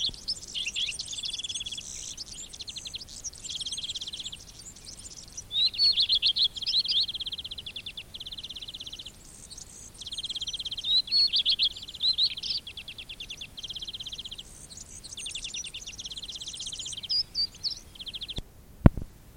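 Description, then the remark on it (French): Birds on riverbanks sing as loudly as they can under a blue sky, in bright, rapid chirping phrases and trills, lively, with a steady high insect-like buzz underneath and a sharp click near the end. “Le ciel est bleu, le fleuve est clair, et sur les rives, les oiseaux chantent à tue-tête, aussi fort qu'ils le peuvent.”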